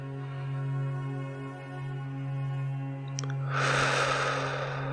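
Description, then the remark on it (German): A steady low humming drone plays throughout, and near the end a slow, deep, breathy inhale rises, airy and fairly loud against the calm background. “Wir atmen ein”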